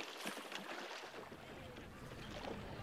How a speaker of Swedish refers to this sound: En bit bort i vattnet ligger en roddbåt redo. Jägaren skjuter. Båten far sakta fram och hämtar upp den döda svanen innan staden hunnit vakna.